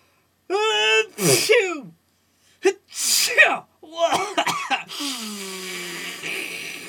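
A series of three or four loud, theatrical sneezes caused by an allergy to cats, each starting with a drawn-out rising 'ah' breath before a sharp burst, then a final trailing, breathy exhale.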